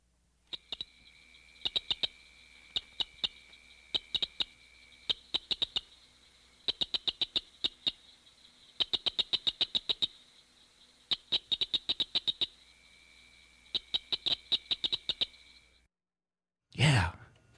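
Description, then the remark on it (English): Cricket frog (Acris grillus dorsalis) calls: sharp, dry clicks delivered in rapid bursts of several at a time, repeating steadily over a continuous high buzzing background, followed by a brief louder sound at the very end. “The cricket frog, Acris grillus dorsalis, is the smallest species in the chorus.”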